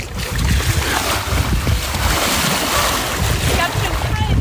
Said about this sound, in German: Ich mache noch ein ganz klein bisschen Meeresrauschen.